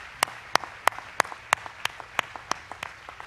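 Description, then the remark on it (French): A standing audience applauds a man who has just sung, in a steady, even rhythm, with sharp claps landing about three times a second, moderately loud, with softer claps between them and no talking. “L'audience s'est levée pour l'applaudir.”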